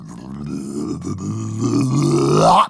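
A voice imitates the water of a castle moat eerily bubbling and gurgling as a fountain of mud shoots up: a low, throaty, wobbling tone that holds steady, then swells louder and slides upward in pitch before cutting off abruptly.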